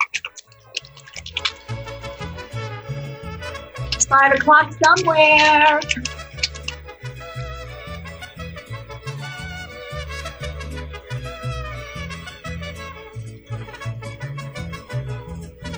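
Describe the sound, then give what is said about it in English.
Ice rattles in a steady, rhythmic shake of a cocktail shaker as a margarita is shaken until very cold, a quick clicking clatter that continues under an upbeat song with a short sung line. “But you're going to just shake until it feels very, very, very cold.”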